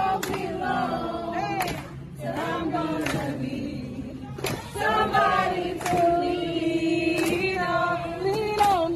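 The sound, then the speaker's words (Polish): A gospel choir sings together outdoors at a street protest, standing between protesters and a cordon of armed police, sustained harmonized voices rising and falling, with sharp percussive hits or claps breaking through now and then over crowd ambience. “A chwilę później zaczęli śpiewać.”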